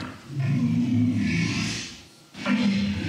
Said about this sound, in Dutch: And this is a walrus.